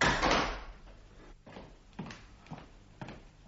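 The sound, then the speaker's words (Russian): A hotel room door is eased partly open with a rough, airy scrape as a thin man squeezes in, followed by a few soft, evenly spaced knocks or clicks. Quiet, with no voices. “Дверь приоткрылась, и в номер протиснулся костлявый.”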